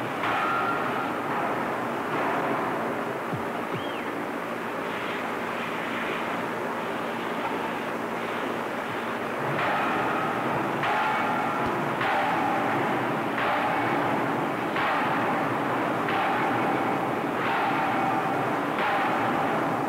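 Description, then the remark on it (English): One of the biggest steam hammers pounds a tough stainless steel alloy block being forged into an engine compressor wheel. It works amid a loud, constant industrial roar, its heavy thuds settling into a steady rhythm of about one blow per second partway through. “The stainless steel alloy used is very tough and resistant to deformation, even when hot, and calls for one of the biggest of the steam hammers.”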